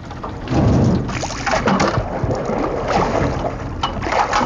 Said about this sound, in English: There's only one way now to travel down Friendship Street, and that's by boat. As we sail down the road, a TV set floats by, and someone's front door.